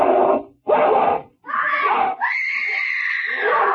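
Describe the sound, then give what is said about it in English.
A woman screams while fighting off a dog over her husband's dead body: two short, harsh cries, then a rougher burst rising into one long, shrill, sustained scream, loud throughout with no speech. “A woman fighting with a dog. Fighting for her husband's dead body.”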